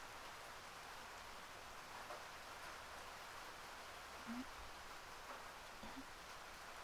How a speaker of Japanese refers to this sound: 今日雨降ってるし、もうバス来ないの？